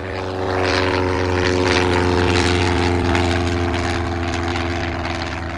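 propeller airplane engine

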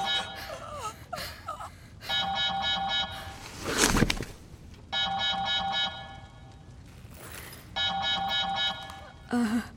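alarm sounding

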